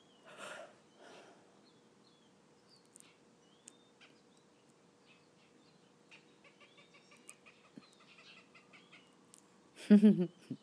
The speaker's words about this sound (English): Our neighbors have a real big orange tree in their yard, and I think a lot of the birds like to sit in our neighbor's yard in the tree.